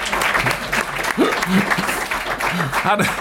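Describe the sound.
An audience applauds a man as he walks in, with steady, dense clapping that fills the whole clip, while voices speak and call out over the noise.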